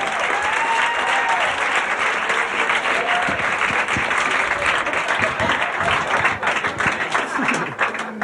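Sustained audience applause, a dense, steady wash of many hands clapping at an even loudness for several seconds, with faint cheering voices mixed into the crowd noise.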